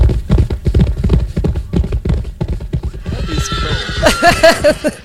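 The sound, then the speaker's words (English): Rapid hooves clip-clop steadily and loudly throughout, then horses let out shrill, wavering neighs over the galloping in the last two seconds. “Bring up the horses.”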